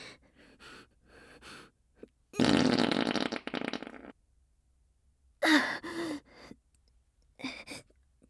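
A long, loud, raspy fart from a young woman lasting nearly two seconds, surrounded by short breathy puffs and a strained, sigh-like vocal burst afterward, with no talking.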